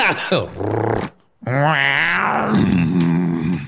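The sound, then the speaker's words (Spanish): A person imitates a purr with a throaty, rumbling growl in two loud voiced bursts separated by a brief pause, the second one rising and falling in pitch. “Ronroneando como...”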